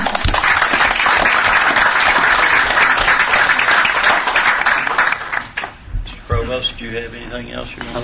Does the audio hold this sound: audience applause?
yes